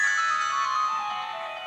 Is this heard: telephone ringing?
yes